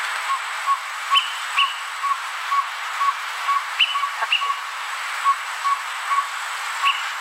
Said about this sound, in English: And I happen to pull up the greater peewee, just so you know. And I this is what the greater peewee sounds like, so everyone can have an idea of what we're trying to talk about here.